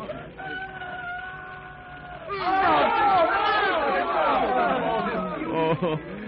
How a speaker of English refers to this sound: And a rooster, Mother, a rooster. And he flaps his wings. He's going to crow. Yes, listen.